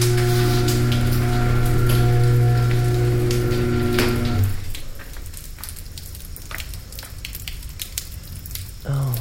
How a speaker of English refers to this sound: Oh shit, it's raining.